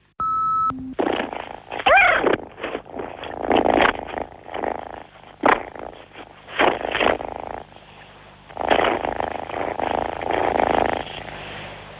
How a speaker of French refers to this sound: Voilà, c'est mon petit chat, je ne sais pas si vous l'avez bien entendu, mais c'est mon petit chat Ulysse.